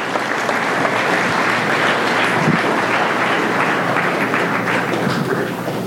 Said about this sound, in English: How about a nice round of applause for all new team members of Summit Church?